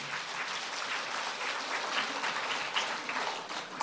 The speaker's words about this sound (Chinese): 是不是手痒啊？这种也要鼓掌的，这讲故事啊，觉得你们手有点痒是不是啊？